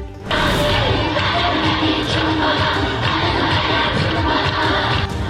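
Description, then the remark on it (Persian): A large group of schoolchildren sing forbidden songs loudly together in chorus, a dense, steady wall of young voices that starts abruptly and carries on without pause, with some crowd-like shouting mixed in. “بچه های مدرسه و همخوانی ترانه های ممنوعه.”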